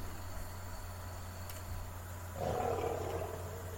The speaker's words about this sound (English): Don't be afraid by the lion's roar. It only means that you are in the country of the indomitable lions. You are in Cameroon.